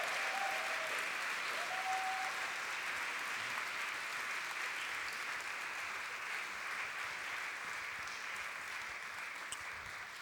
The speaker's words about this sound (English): Let's give these girls a massive cheer.